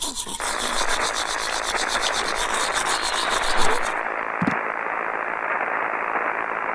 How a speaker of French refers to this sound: Ah. C'est quoi ce bordel? Maman, il y a un truc qui déconne avec mon émission préférée, il n'y a que des parasites. Tu veux dire à la radio? Oui, NPR, National Public Radio